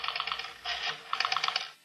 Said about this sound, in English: And then Ralph dials a number on the phone.